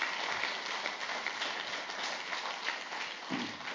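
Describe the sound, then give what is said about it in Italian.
An audience applauding Jesus, a dense, steady wash of many hands clapping at an even loudness for several seconds, with no voices standing out above it. “Ci voleva un applauso a Gesù qua per questo.”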